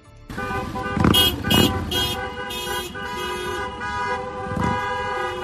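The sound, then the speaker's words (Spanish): Many car horns blare together in a loud, overlapping chorus, some held steadily while others pulse in short repeated honks, over a low rumble of engines during a vehicle street protest by Ambulancias Tenorio ambulance workers in Mérida, Extremadura, Spain. “Movilizaciones en vehículo por las calles de la capital extremeña.”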